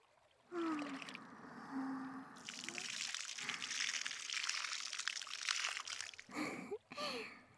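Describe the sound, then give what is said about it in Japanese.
Plenty of warm water pours out in a steady, splashing stream for several seconds, rinsing off soap foam, then stops briefly before a second shorter pour splashes down again. “まだまだ。もう一回流しますよ。たっぷりのお湯でしっかり流さないとですから。”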